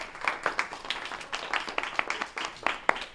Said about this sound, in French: Bon, merci beaucoup. Je pense qu'on peut les applaudir très, très, très chaleureusement.